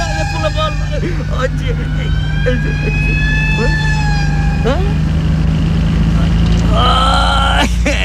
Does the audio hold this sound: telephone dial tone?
no